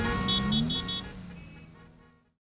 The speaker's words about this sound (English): Oh no! Look at the cars. Let's park and walk.